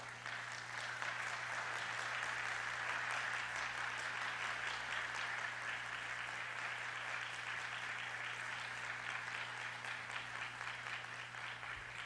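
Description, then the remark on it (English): A church audience claps steadily together as a clap offering to Jesus, a dense, sustained wash of applause that stays loud and even for the whole stretch with no talking over it. “Let us give Jesus the best clap offering.”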